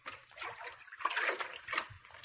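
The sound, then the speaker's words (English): Water splashes and sloshes irregularly as a man wades from the riverbank into a cold river, with uneven surges of churning water and no one speaking. “He's sneaking down to the riverbank now, and I know what he's after.”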